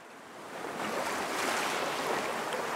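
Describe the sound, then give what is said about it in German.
Steady rush of surf from the turquoise sea washing onto the shore by the coastal road to the lagoon enclosed by the main island of Tarawa, Kiribati, a broad continuous hiss swelling slightly after the first second, with some wind noise and no voices. “Und da stehe ich jetzt am türkisblauen Meer, an der Küstenstraße zur Lagune, die von der 32 Quadratkilometer großen, bumerangförmigen Hauptinsel Tarawa umschlossen wird.”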